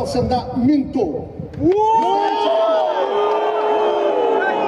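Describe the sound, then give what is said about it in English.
A lone voice speaks briefly, then a large crowd of workers at a heavy machine factory in Minsk erupts into loud, sustained booing and chants of "shame" at Lukashenko as he defends riot police, many overlapping voices forming a steady roar. “They booed and chanted shame when Lukashenko defended riot police who have beaten people out protesting his recent election.”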